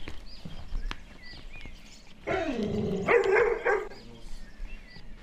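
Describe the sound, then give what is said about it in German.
A dog lets out a drawn-out bark that turns into a rougher, louder burst, lasting about two seconds. Faint chirps and quiet background noise surround it, with no talking. “Schöner Hund.”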